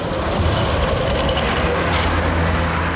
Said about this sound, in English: Like, where's the bus? Can I get a bus sound around here?